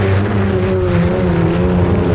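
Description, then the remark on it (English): A champion racing hydroplane's engine roars steadily and loudly during an action test of a new power concentrate fuel additive, a dense, throaty drone with strong low harmonics and a slight rasp, sustained without a break. “Listen, you are hearing an action test of a new power concentrate additive. New custom formula Bardol. Action tested in Miss Bardol. Champion Hydroplay.”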